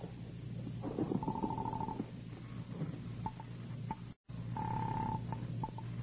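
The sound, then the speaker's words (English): A telephone receiver is lifted, with a couple of sharp handset clicks between two bursts of a steady ringing tone over a low background hum, and no talking. “I reached for the phone.”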